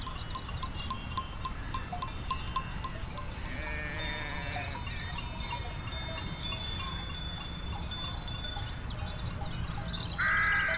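Sheep brought out to graze by an Afghan shepherd bleat on a steep mountain slope in the mountains outside Tehran, one clear bleat partway through and another near the end, while small bells jingle rhythmically early on over a steady outdoor hush.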